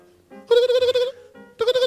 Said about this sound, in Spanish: Y hablando de sexo, suena el teléfono.